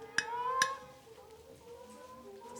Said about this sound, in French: La poule en haut de l'arbre, bruit de bec sur la vitre.